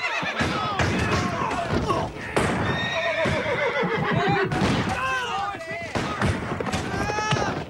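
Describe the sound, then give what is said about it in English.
Several horses whinny and neigh loudly in overlapping, pitch-sliding cries as they rear up and buck their riders under gunfire, with a busy clatter of hooves and occasional thumps throughout, continuous. “The horses rear up and buck their riders as Confederates snipe from the surrounding trees.”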